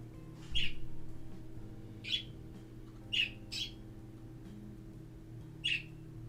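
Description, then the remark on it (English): Birds give five short, sharp chirps and squawks at irregular intervals, standing out clearly over a steady low background hum with no one talking. “Keep the birds some company, honey.”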